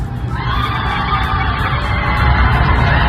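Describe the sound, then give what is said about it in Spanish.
A large crowd in Brazil roars and shrieks in sustained, dense celebration of the Brazilian film Aún Estoy Aquí winning Best International Film, loud and continuous throughout, with high excited screams rising above a rumbling mass of voices like fans after a winning goal. “¿Terremoto? No, gente gritando.”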